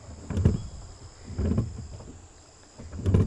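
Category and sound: vehicle, rowing boat on water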